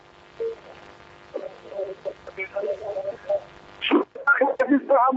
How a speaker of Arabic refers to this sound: اسمعني من التليفون ووطي التلفزيون.